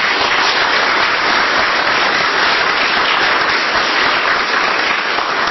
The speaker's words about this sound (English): These first responders do it every single day. So let's give them a round of applause, because they deserve it.